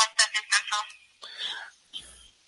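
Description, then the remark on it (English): A phone rings on an outgoing call to a property owner: a quick run of bright, warbling electronic pulses, then a softer hiss and a short high tone, heard faintly as if through the receiver. “And by the way, when I do get somebody on the phone”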